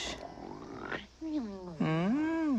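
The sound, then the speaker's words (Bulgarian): A voice imitating snoring: a rough, grunting snort followed by wavering, drawn-out vocal tones that rise and fall, fairly loud and with no other sounds. “Ай, хъркаш.”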